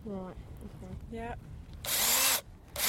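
A person speaks briefly, then a power drill with a 16 mm bit roars into material in a loud burst, boring a hole about an inch deep, stops, and starts again right at the end.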